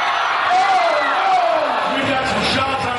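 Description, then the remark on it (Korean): A crowd cheers and shouts loudly and steadily throughout at a youth robot competition, as a robot knocks down an opposing robot and climbs a high tower, with a few high whooping voices rising and falling above the dense roar of many people. “로봇이 상대방 로봇을 쓰러뜨리고 또 높은 탑에 오르자 사람들의 환호가 이어집니다.”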